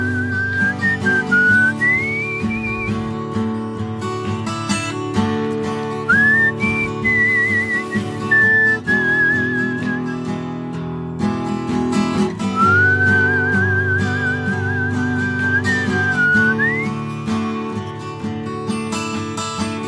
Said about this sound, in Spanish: Con la guitarra y el silbido